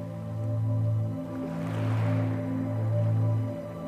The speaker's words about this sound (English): They are illuminated by the moonlight, brilliantly lighting up the deep colors of the waves as they dance to and fro playfully along the beach. You can hear the rhythmic sound of the waves lulling you into deeper relaxation.